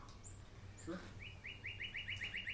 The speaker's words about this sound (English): That bird sounds like it's in the house. It does.